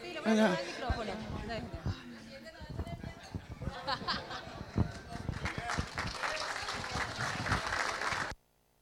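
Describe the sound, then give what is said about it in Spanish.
An audience breaks into sustained applause for a Paraguayan singer, dense and steady clapping that swells toward the end before cutting off abruptly, with a voice heard briefly at the start. “Fuerte los aplausos”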